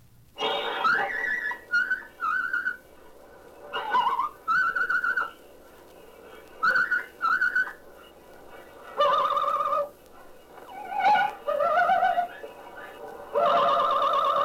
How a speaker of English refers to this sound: Now, Bambi, will you whistle and sing your funny little song for us?